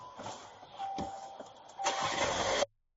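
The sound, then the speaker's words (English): A car engine cranks over for a couple of seconds with a whirring starter, then catches and roars louder before cutting off abruptly. Fairly loud, with no voices. “Oh, no, don't start it up.”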